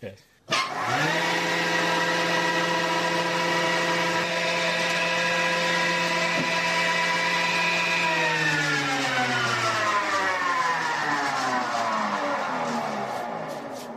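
A combination woodworking machine for planing, thicknessing and profiling whirs to life with a loud, steady electric whine, holding one even pitch for several seconds before its tone sinks as the motor gradually winds down.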